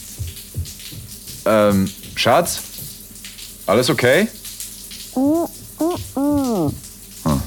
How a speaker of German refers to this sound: Also gehe ich in die Dusche und lasse das warme Wasser über mich laufen. Als ich meinen Kopf unter den Wasserstrahl halte, gibt es plötzlich nur noch diesen einen Moment.